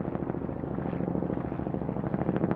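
Kyrgyz military helicopters fly around overhead in a Himalayan valley, rotors thumping in a fast, steady chop with a heavy engine roar underneath, loud. No voices, just continuous noise throughout.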